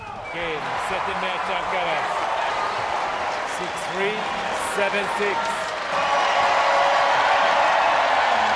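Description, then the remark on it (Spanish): A large crowd roars and applauds continuously at the end of a tennis match, a dense wash of cheering that swells louder toward the end, with a voice talking over the ovation. “Fíjate la ovación, ¿eh? Público entregado, entregado.”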